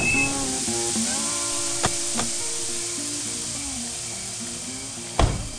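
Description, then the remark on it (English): Steady, loud steam hissing from the overheated radiator of a panel van pulled over to the side of a highway at night on the outskirts of town, in a hot wind, with faint shifting whine-like tones underneath and a few sharp knocks, the last one near the end. “A panel van with steam belching from its radiator pulls over to the side of the road.”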